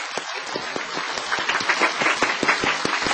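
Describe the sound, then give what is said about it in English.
An audience claps steadily, a dense wash of many hands with sharp individual claps popping out, holding at a fairly loud, even level that swells slightly toward the end. “Big applause again.”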